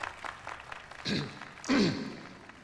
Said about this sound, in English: Clapping, Mo raises his hands over his head. Sam strolls out onto the stage. Carol and Danny clap unenthusiastically.